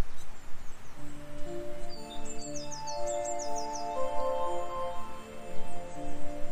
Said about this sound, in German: Das ist eine Art von Wind. Packen wir auch hier noch ein tiefes Pad dazu. Und das Ganze sorgt jetzt eher, wie gesagt, für eine Wachheit. Der Wind sorgt für einen lebendigen, atmenden Klang.